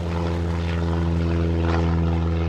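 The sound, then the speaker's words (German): A propeller airplane engine starts and drones loudly and steadily as the plane takes off from a flight school just after sunrise, a continuous low throbbing hum with layered harmonic tones that holds even throughout, with no voices. “Sie steigt ins Flugzeug, startet den Motor und hebt ab.”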